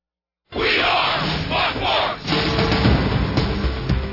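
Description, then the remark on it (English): A packed basketball crowd at the DC Everest Fieldhouse, with Evergreens and Wausau East fans, roars and cheers in a sustained, loud wash of voices as the Lumberjacks defeat the Evergreens 44-40, with surging yells and shouts rising and falling throughout, no single voice standing out. “Wausau East had a good cheering contingent too across the way, and they have seen their Lumberjacks defeat the Evergreens 44-40.”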